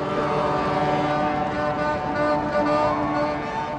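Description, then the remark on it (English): Boats of all sizes sound their horns together in a sustained, overlapping chorus of steady tones over a broad rumbling background, loud and continuous, in celebration on the River Thames in London as they pass the Queen's vessel during her Diamond Jubilee. “Boats of all sizes blew their horns in celebration, traveling past the Queen on her own vessel on the River Thames.”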